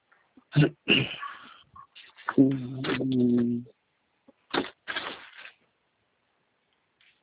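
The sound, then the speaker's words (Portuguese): Rustling and clattering in short bursts as someone digs through objects searching for a pen, with a brief low hum partway through and a quieter stretch of scattered knocks. “Deixa eu ver se eu acho aqui uma caneta rapidinho.”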